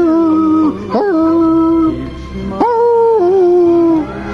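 A dog howls loudly at music in two long, drawn-out phrases, each starting with a sharp upward yelp before the pitch holds and slowly slides down, with no talking.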